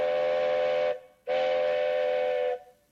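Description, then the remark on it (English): A train whistle sounds twice as the train approaches railroad tracks near La Belle, Quebec: a long loud blast, a brief gap, then another long blast, steady, with no voices. “We just have to cross these railroad tracks before that train gets here.”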